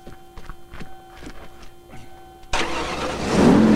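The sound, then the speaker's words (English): An SUV engine, a Cherokee, is cranked by the starter as the driver turns the ignition after reattaching loose wires under the engine, with a few rhythmic whirring pulses, then catches abruptly and roars to life, running loud and rising in pitch as it revs up. “Getting back on his feet, he moves to the driver's side and turns the ignition.”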